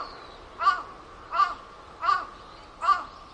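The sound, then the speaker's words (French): A crow caws four times from a branch in a steady, evenly spaced rhythm, each call harsh and raspy, clear against a quiet background. “Cric, pour le corbeau croissant sur la branche.”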